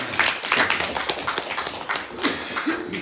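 A crowd applauds steadily for about three seconds, a dense wash of many overlapping claps with no pauses, fairly loud and even throughout.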